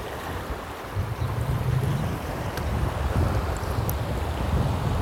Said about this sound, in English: All right, let's try casting out and see what happens here. All right, that was a terrible cast, but we'll let it run down the river.